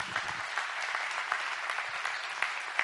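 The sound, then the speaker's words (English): A large church audience applauds for teachers, many hands clapping at once in a dense, even patter that holds at a consistent level throughout. “We can clap for that.”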